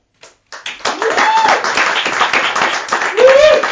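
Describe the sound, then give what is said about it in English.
An audience breaks into sustained, loud applause after a brief first clap, with dense clapping throughout and a couple of rising whoops and cheers over the top. “Right, let's keep the round of applause going”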